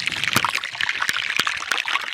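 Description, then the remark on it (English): Underwater hydrophone recording of melting glacier ice at the Hans Glacier in southwestern Spitsbergen: a dense, steady fizzing crackle, like popping bubbles, punctuated by several sharper clicks and pops, even in loudness, with no voices. “What does a glacier sound like? This is the Hans Glacier in southwestern Spitsbergen between Norway and Greenland.”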